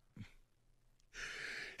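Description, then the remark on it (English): A single sneeze: a quick sharp intake of breath, a pause, then a long breathy rush of air ending in an abrupt explosive burst. No one talks. “Maybe I shouldn't after that sneeze already there.”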